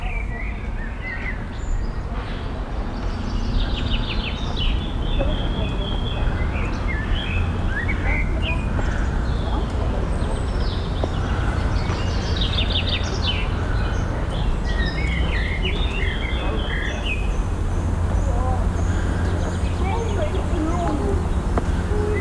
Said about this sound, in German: Wunderbar, wie die Vögel beginnen, ein eigenes Stück zu spielen. Mönchsgrasmücke und später eine Amsel.